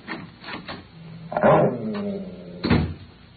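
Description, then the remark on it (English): The door to a room is opened: a few quick clicks and rattles of the latch, then a drawn-out creak of the hinges, ending in a solid wooden knock. “I'll show you what happens when I open the door.”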